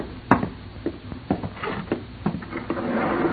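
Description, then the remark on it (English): A door swings shut with a sharp wooden thud near the start, followed by several softer knocks and rattles as it settles. No one speaks. “Close the door, Harold. I just did.”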